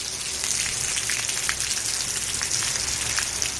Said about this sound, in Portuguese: O que escoitan non é unha fervenza, era a auga que caía esta mañá ás portas da emisora, máis ou menos a iso das 7:30.